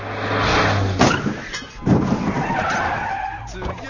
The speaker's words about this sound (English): He broke the car's window with his bike.